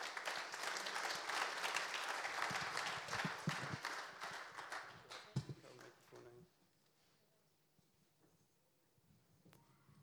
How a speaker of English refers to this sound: So, would you like to give her a round of applause, please?